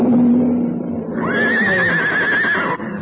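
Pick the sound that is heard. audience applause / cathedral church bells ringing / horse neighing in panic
horse neighing in panic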